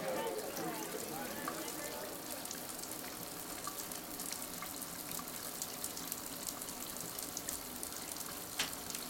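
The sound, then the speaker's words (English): A shower runs steadily, a dense, even hiss of falling water throughout, with a faint voice briefly audible near the start. “I like taking a shower at night because when I use my finger to outline my daughter's name on the steamy glass door like I do backwards and forwards every day, it reflects onto the shower walls too.”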